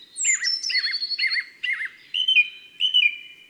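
A song thrush sings loud, clear phrases, repeating one motif four times before switching to a new one, while a blue tit's thin, high notes sound alongside, without any talking.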